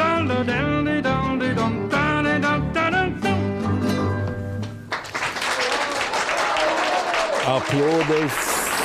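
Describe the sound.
A song with singing and instruments closes out, then a loud, sustained burst of audience applause fills the remaining seconds as a man's voice begins speaking over it.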